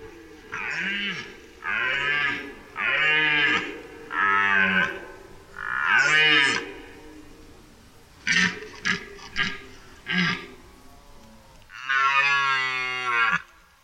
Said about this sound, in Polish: W czasie rykowiska, trwającego od września do połowy października, można usłyszeć potężny ryk jelenia byka.